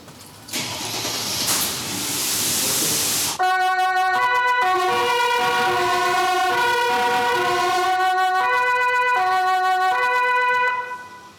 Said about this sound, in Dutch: Mogen jullie ook de sirene even controleren? Dat doet normaal eigenlijk mijn collega chauffeur, die er nog niet is. Maar ik wil het wel even voor je doen. Het wordt wel heel veel kabaal.